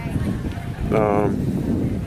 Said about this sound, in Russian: Вы слышите океан? Это неудивительно. Тут до него 100 метров. Меньше, не знаю.